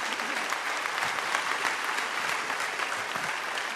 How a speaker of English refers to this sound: Go ahead and clap for that.